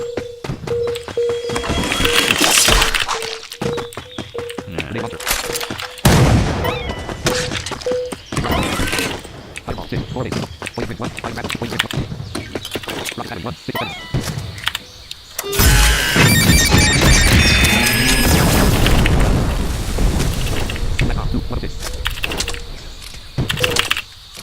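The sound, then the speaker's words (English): Grenade launcher explosions go off again and again, loud booming bursts in quick succession, with a steady humming tone underneath at first and a denser, heavier cluster of blasts later on. “Yeah, we now have, as you can hear, this loud thing. Grenade launcher. Boom.”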